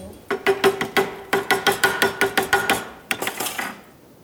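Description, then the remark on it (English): A quick, steady series of sharp hammer strikes on metal, over a dozen loud blows with a ringing tone, a brief pause, then a few more hits. No one speaks. “You want more hammering?”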